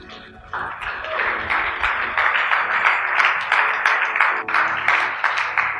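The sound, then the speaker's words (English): An audience claps steadily as a preacher finishes a sermon, a dense crackle of many hands that swells in the first half second and then holds loud and even to the end, with no speech over it. “She was like, when people are clapping, she was like, I've closed.”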